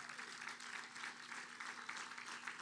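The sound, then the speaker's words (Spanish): A church audience applauds the pastors' and mentors' wives, a dense wash of clapping that holds an even level throughout with no voices standing out over it. “¿Cuántos me le pueden dar un fuerte aplauso a estas mujeres?”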